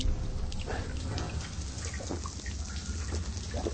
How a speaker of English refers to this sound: I'm in a lava tube in Iceland, searching for water, but my torch is dying fast. There's a little seep of water coming through the rock here, and this is good enough to drink.